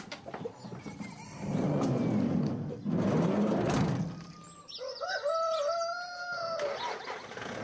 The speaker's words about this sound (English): Willie, with the chickens in the back of his van, and a map printout and sat-nav in hand.